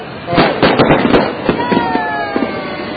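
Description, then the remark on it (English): Fireworks crackle and pop in a rapid cluster of sharp bursts, with thin whistling tones trailing behind and indistinct voices murmuring in the background. “Move to the open space. Light your fireworks.”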